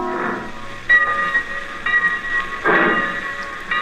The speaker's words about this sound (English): The train pulled out of Easton at 1:20 in the afternoon. It had pulled in 3 minutes earlier.